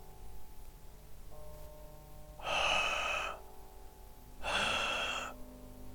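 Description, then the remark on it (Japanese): A voice imitates a heavy creature's breathing: two long, loud, rasping breaths spaced a couple of seconds apart, over a faint steady background hum. “という息遣いや、爪のようなもので床を引っかく音まで聞こえてきた。”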